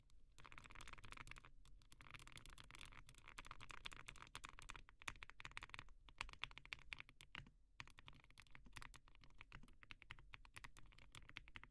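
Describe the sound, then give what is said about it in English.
Steady, rapid typing on a mechanical keyboard, fairly loud, with crisp clacky keystrokes running continuously with only brief pauses and no voices. “personally, I think the fanciest keyboard I will have, though, is probably my Link 65.”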